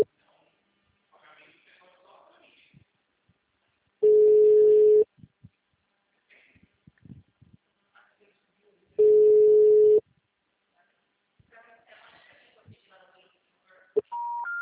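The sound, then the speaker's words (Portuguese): A telephone busy signal, the number being called is busy, sounds as two loud, steady, low-pitched tones, each about a second long and several seconds apart. Soft speech murmurs in between, and a short beep closes it. “telefone encontra-se ocupado. Por favor, o número está ocupado.”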